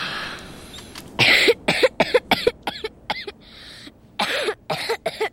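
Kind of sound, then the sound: human body sound, heavy coughing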